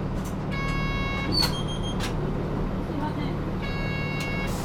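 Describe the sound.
A bus idles with a steady low engine rumble while a high electronic chime sounds in two bursts, then the vehicle begins pulling away under muffled background voices.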